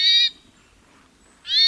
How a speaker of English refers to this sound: Hermit thrushes, like other songbirds, broadcast a variety of calls. Call notes can signal many things: alarm at a predator, or aggression toward a rival. Or they may simply maintain contact between members of a pair or flock.